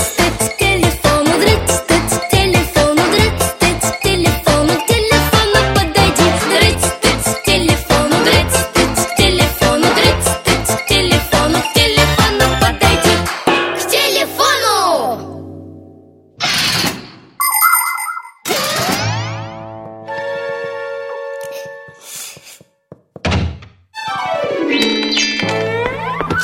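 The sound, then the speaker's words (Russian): A bright, fast electronic phone ringtone melody plays loudly for several seconds, followed by a stretch of varied synthetic tones, chimes and short musical bursts with brief pauses between them. “А сейчас наш вице-рингтон.”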